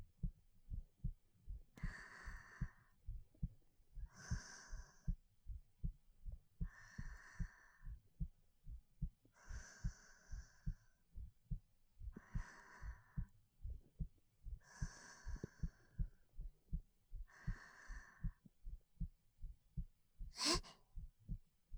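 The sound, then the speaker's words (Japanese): A steady heartbeat, the speaker's own racing heart while pressed tightly against someone, thumps continuously in a quick, even rhythm, while soft breaths rise and fall over it every couple of seconds, ending with a brief sharp intake near the end. “こんなにぴったりとくっついていたら、もしかして私がドキドキしちゃってるのバレちゃってますか？”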